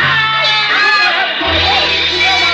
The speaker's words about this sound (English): The wild shouts from the crowd sent me running back.